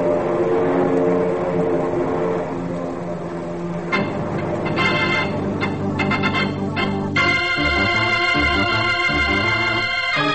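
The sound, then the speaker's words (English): Airplanes arriving for a mock aerial attack over a field drone overhead with a steady, loud engine roar whose pitch and texture shift partway through as the aircraft pass by. No voices are heard. “Here come the planes now, ready to drop their eggs in the Citadel.”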